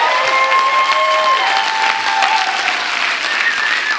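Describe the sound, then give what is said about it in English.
A crowd claps steadily for several seconds, a dense wash of many hands applauding together, with faint tonal ringing underneath and no one speaking. “You're supposed to clap at the end.”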